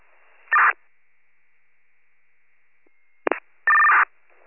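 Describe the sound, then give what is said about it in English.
Electronic tone bursts over a narrow radio channel: a short two-tone burst, a long quiet hiss, then a quick click and another sustained tone, county fire dispatch cancellation tones sent over a scanner after the alarm company reported a false CO alarm. “You can put out cancellation tones.”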